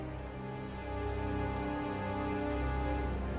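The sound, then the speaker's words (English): Steady, dense rain pours down without a break, a continuous wash of hiss with a low rumbling undertone, building slightly after the first second and holding heavy throughout, with no voices. “he says through the downpour.”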